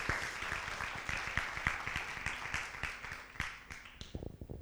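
A crowd applauds with dense, steady clapping that holds for a few seconds and then thins out, leaving a handful of scattered claps at the end.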